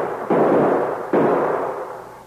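gunshot fired

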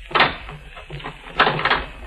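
door being locked

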